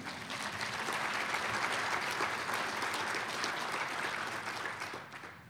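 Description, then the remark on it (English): An audience in New York State applauds an announcement that more than 75,000 acres of farmland have been protected, a dense patter of many hands clapping at an even level for several seconds before it begins to thin out and fade at the end. “Somebody wants to clap for that, that's okay.”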